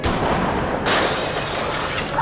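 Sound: glass shattering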